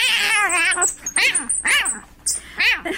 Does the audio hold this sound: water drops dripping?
no